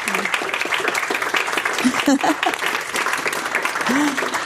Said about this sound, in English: Let's give them a big hand of applause.